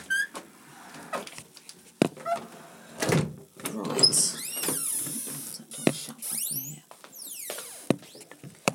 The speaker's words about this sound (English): Door's got an awful squeak.